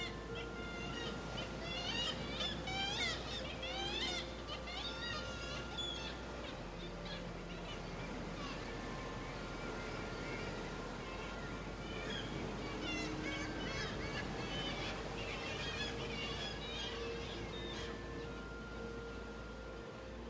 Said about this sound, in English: and quite often you hear the reverberation, the coloration of the sound reflecting back off these vertical black rocks. And they have quite a plaintive character to the voices. Kittiwakes, onomatopoeic, because they say kittiwake, kittiwake.